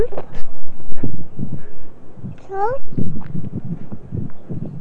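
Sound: dog whimpering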